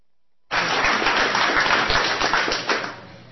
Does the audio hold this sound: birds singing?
no